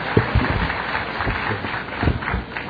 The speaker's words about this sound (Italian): Beh, dopo tutti questi applausi, almeno che qualcuno non sia contento, se no vado via che, beh, ok.